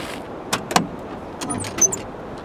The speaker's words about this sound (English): The keys and the ignition switch.